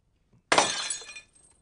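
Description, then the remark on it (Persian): A vase smashes in one sudden crash, a bright burst of shattering glass or ceramic with tinkling fragments that ring on for about half a second before fading. “حالا دیگه واسه من گلدون میزنی میشکنی ها؟”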